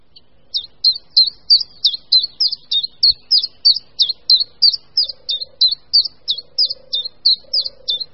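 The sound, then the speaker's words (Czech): A common chiffchaff, a small, inconspicuous green bird, sings from the treetops a monotonous, steady series of about twenty bright, high chirping notes in even rhythm, clear, with a faint low hum in the background and no talking. “Jednotvárný hlas, který slyšíme z korun stromu, patří zcela nenápadnému malému zelenému ptáku, budničku menšímu.”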